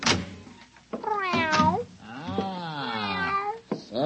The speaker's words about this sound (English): Meow.